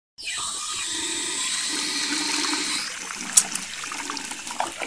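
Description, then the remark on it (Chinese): In a bathroom, a faucet is turned on and cold water gushes with a steady hissing rush for a few seconds, then eases off into a softer trickle with a sharp clink and scattered drips. “我打开水龙头，想让冰凉的水冲掉恐惧感。”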